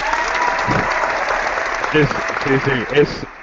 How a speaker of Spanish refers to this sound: espera, déjame aplaudir, a ver si funciona esto.